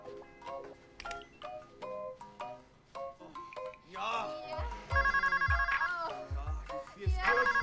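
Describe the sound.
A phone ringtone plays a bright, electronic melody of quick notes, then settles into a repeating buzzy ringing pattern, fairly loud, with a low voice murmuring underneath; a dog then trots over and carries the ringing phone in its mouth.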